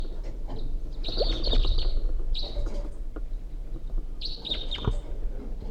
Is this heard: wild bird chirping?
yes